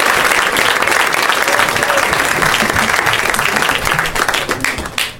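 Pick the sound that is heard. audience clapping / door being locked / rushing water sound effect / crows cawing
audience clapping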